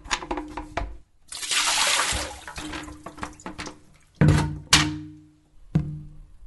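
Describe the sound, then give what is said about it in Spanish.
Water splashes and pours out as containers are tipped over, mixed with hollow thunks of them being set down, with a long gushing pour near the start and sharp knocks later. “Dando vuelta a todo lo que junta agua, no hay dengue.”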